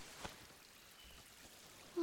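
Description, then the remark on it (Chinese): A quiet, steady rush of flowing water from a small creek, soft and continuous like a gentle brook, with a brief voice-like tone cutting in at the very end. “这小溪真美，在这里洗澡吧。”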